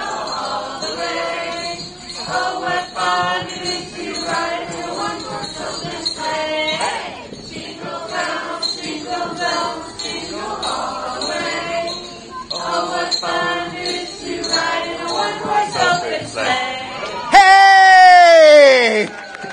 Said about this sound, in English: I think we're going to have a live performance from the Children's Center right now, right here, of Jingle Bells on the count of three. We'll do the first part of it. Let's hear it. One, two, three. Jingle Bells.